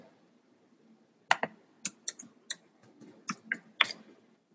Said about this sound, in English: I wonder if you guys can hear me typing. Probably can.